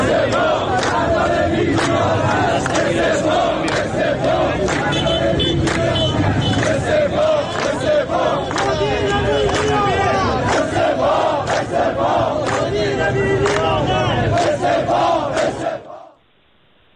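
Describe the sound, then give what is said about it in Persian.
A large crowd of drivers of Tehran's United Bus Company chants a slogan together in loud, rhythmic unison for about sixteen seconds, greeting Tehran mayor Alireza Zakani, voices dense, with traffic rumble underneath before the sound cuts off abruptly. “ظاهرا رانندگان با این شعار از آقای شهردار استقبال کردند.”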